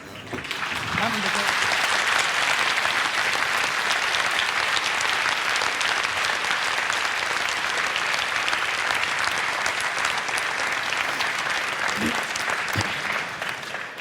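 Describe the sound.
Sustained audience applause, a dense crackle of many hands clapping at steady loudness for the full stretch, with a few faint voices briefly audible beneath it.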